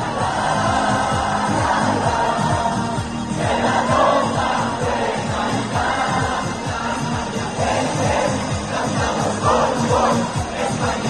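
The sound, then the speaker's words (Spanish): A loud, dense night crowd celebrating Spain's Eurocopa victory in Plaza de América in Oviedo or Plaza de España in Avilés, Asturias, fills the air with a steady roar of overlapping voices and shouts, while a rhythmic pulse, like music or clapping, beats underneath throughout. “Así sonaba anoche la Plaza de América en Oviedo. O la Plaza de España de Avilés. Y fiesta, mucha fiesta también en el Parque Hermanos Castro de Gijón.”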